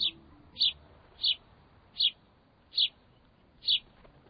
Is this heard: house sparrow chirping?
yes